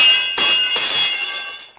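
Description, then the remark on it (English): A metal bar, accidentally knocked off a second-floor landing, clatters down steps: two sharp clanks about half a second apart, each leaving a bright, bell-like metallic ring that hums on and slowly fades, with no voices. “In the process, he accidentally knocks a metal bar down the steps.”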